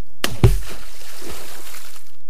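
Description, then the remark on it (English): A single hollow plop as a stone drops into water, with a short splash and a brief watery slosh fading out afterward. “The stone went plop when it hit the water.”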